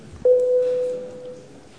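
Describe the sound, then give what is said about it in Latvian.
A single parliamentary voting bell sounds in the Saeima, rung to call deputies to a vote: one clear, steady electronic tone that starts abruptly, holds for about a second, then fades away over a low murmur, with no talking. “Deputāti, lūdzu balsojumu, ja? Lūdzu zvanu.”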